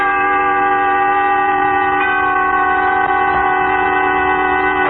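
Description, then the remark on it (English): A steam train's horn blares in one long, loud, unbroken tone for the whole stretch, with a low rumble of the moving train beneath it and no voices, in a Suspense radio drama recreating the wreck of the Old 97. “Tonight, you will take a trip on a train, a journey exact in time and place, during which Autolite will recreate an historical puzzle by dramatizing with story and song the wreck of the old 97.”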